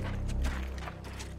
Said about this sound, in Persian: صدای پای تعدادی جنگجو توی برف.